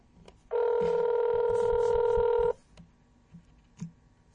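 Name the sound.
outgoing phone call ringing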